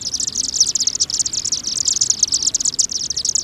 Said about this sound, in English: We've just witnessed a flock of chimney swifts enter their communal roost site for the night.